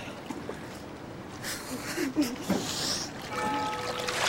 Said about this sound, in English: climbs down the ladder into the water.